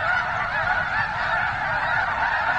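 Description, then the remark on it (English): A large flock of migrating waterfowl, including ducks, honks at a wetland stopover at Nebraska's rainwater basins in late winter, many overlapping calls blending into a dense, loud, steady clamor with no one speaking. “He says it's an amazing thing to witness those birds during their stopover.”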